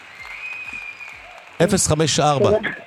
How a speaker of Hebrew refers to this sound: אז רגע, קודם גם מגיע כפיים. גם לך וגם למאזין.